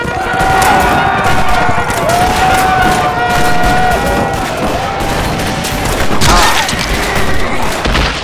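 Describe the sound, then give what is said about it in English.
A loud, steady din of rifle gunfire as an infantry company fires on attackers at a supply depot: volleys of cracks and deep booms pile over one another for the whole stretch, with shouting voices and wavering tones rising through the chaos. “Ward fell with the first volley.”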